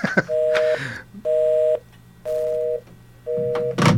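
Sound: telephone dialing tones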